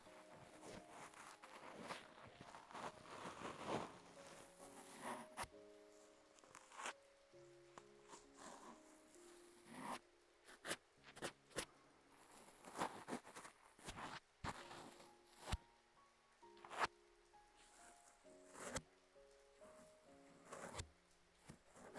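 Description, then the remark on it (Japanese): A passing light rain shower, just begun after cloudy weather, patters down softly, a steady hiss of drops broken by scattered sharper taps, with faint tonal sounds drifting in the background. “曇っておったが、いよいよ降り出したか。しかし、これは通り雨な気がするの。”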